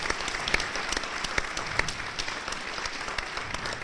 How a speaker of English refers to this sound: I think that merits some applause, too. Yeah.